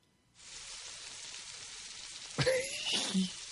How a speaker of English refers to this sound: What the hell is that? Well, it's either frying bacon or a shower. It's frying bacon. Frying bacon. It's frying bacon. I thought it was a shower.